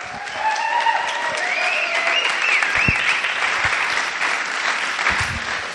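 Warm, sustained applause from a crowd, a dense steady wash of clapping that holds at an even level throughout, with faint cheering tones rising above it.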